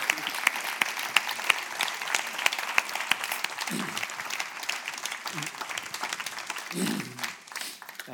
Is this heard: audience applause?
yes